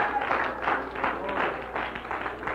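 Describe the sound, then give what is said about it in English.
An audience claps their hands together in praise to God, a steady, dense wash of applause with rhythmic swells in the clapping and a faint murmur of voices underneath. “Oh, clap your hands unto him.”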